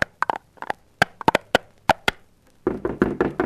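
Loud, sharp knocks pound on the door of a house in uneven bursts of two and three, then break into a rapid, rumbling flurry of heavy blows near the end. No voices.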